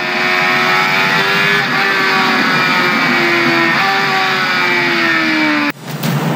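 A motorcycle engine roars loudly, holding a steady, droning pitch with small rises and dips before cutting off abruptly near the end. No one speaks.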